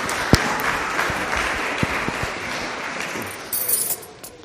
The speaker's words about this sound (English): Thanks, folks. Let's give them a round of applause for volunteering.